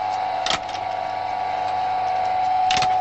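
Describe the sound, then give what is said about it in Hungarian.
The electric motor of a spinning machine, switched on for spinning hemp, runs with a steady, mid-pitched hum throughout, broken by two short mechanical clacks, one near the start and one near the end. No one speaks. “akkor megyek a fonógéphöz, itt veszem a kezembe a spinflekköt, beváltom egy kis vízbe, már csak úgy mondom, hogy bekapcsolom a motort, már csak motor a villanyt.”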